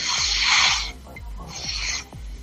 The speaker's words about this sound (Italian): Io troverei interessante far sentire il rumore della carta tagliata. È un suono.